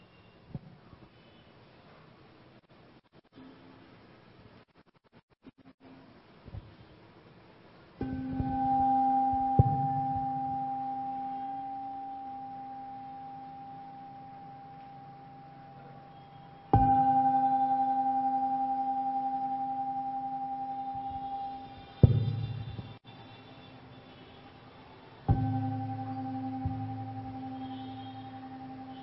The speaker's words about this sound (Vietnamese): Bây giờ mời đại chúng nghe ba tiếng chuông và chúng ta chuẩn bị vào giờ pháp thoại.